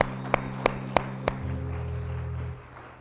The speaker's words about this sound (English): Go ahead and give God one more hand clap of praise.